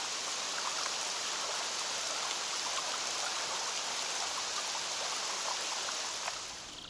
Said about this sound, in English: Rain on the Loch at Eileen Donan Castle in the Scottish Highlands.